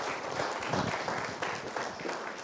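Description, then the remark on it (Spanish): Steady audience applause after a presentation fills the whole stretch, a dense wash of many hands clapping at once, fairly loud, with no pauses or voices standing out. “Muchas gracias, un aplauso.”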